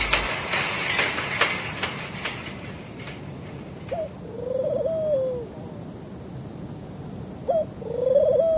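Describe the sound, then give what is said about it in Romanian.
Doves coo in a forest in two soft, low phrases, one after a few seconds and another near the end, over a steady background hiss and earlier rumbling noise. “Păsări ale lui Venus, sărutându-vă în pădure, cât de vara de lungă.”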